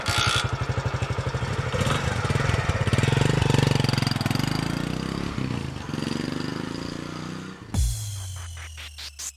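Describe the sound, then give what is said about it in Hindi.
A motorbike being taken out to ride to a paan shop: its engine chugs with a steady, rapid low putter, holding a loud idle for several seconds before the sound shifts abruptly near the end. “Bike निकाल, bike निकाल।”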